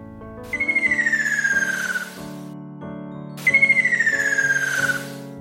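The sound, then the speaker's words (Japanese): Two long descending whistled calls of a ruddy kingfisher, each a clear high tone sliding steadily downward with a fluttering, trilled texture, separated by a short pause over a soft, steady musical background. The calls are heard at a mountaintop overlooking the sea. “健太、それはきっと赤松瓶だよ。”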